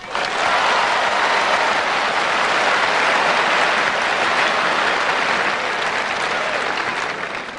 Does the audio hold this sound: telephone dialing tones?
no